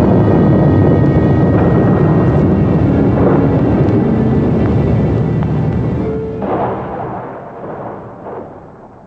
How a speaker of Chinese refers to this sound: 突然间雷声大作，地动山摇，人们都扑倒在地上，万分恐惧。